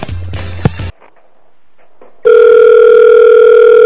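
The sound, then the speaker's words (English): Telephone call being placed again to the same person: a burst of clicky, buzzing handset noise, a short pause, then a loud steady electronic line tone that hums on without a break to the end. “All right, let's try him again.”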